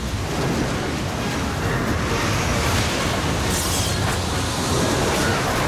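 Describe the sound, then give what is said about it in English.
A powerful, steady roar of tornado wind rushes on without pause, loud, a dense whooshing wall of sound with no voices or other distinct noises. “He looks around, bewildered, as a tornado is conjured up beside him. Another one forms, and then a third snakes down from the sky.”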